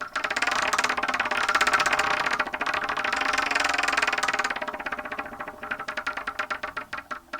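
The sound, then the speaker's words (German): A spinning prize wheel, the "Wheel of Torture" on a German show, rattles with a fast, dense stream of clicks that gradually slows into distinct, spaced ticks as it winds down. No one speaks over it. “du darfst eigentlich auch schon mit dem Wheel of Torture starten.”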